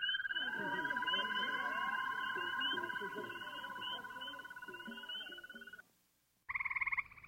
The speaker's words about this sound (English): You'd never expect something with so many warts could sing like this. And listen to the way they all get together into these toad choruses, all twirling away.